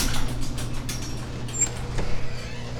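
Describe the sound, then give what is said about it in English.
A door is pulled shut: a series of soft rattling scrapes, a brief high squeak, then a dull knock, all over a steady low mechanical hum with no one speaking. “But we can close the damn door.”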